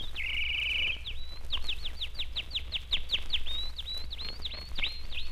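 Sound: canary chirping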